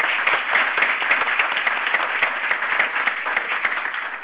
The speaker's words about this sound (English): So please join me in a round of applause for all of our directors.